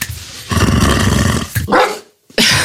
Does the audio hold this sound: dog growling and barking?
yes